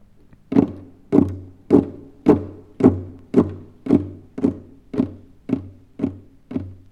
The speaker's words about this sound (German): Marschierende Truppen. Was ist das? Das sind die Krallen an den Tatzen der Windspiele von Friedrich II. Auf dem harten Parkett von Sanssouci.